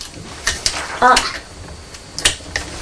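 A toy bridge piece is dropped into a box serving as a toy engine shed, making a few sharp clattering knocks: two quick taps, a louder rattling clunk, then one more knock a moment later.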